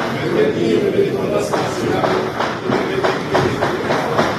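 Distant gunfire heard during the swearing-in ceremony of a transitional council: a series of sharp, muffled pops at a fairly steady rhythm, roughly two per second, over a continuous rumbling background with a low murmur.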